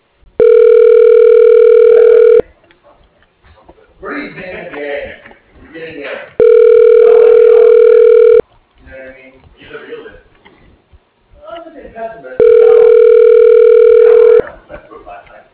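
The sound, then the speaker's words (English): A telephone ringback tone purrs three times while a call is being connected, each steady two-second burst followed by a pause of about four seconds, with muffled voices murmuring in the gaps over a thin phone-line sound. “Please hold while we connect your call.”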